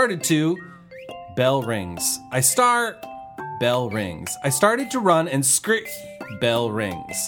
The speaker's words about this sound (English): Finally, bell rings. Oh yeah, I'm in school.